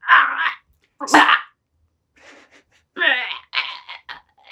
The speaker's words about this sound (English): The dog is suffocating. Scream, scream, it will do you no good. Nobody will listen to you. You are only a dog, a malignant, ungrateful dog.